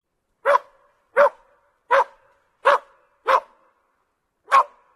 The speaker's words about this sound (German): Und das hört man vor allem, wenn sie viel bellen.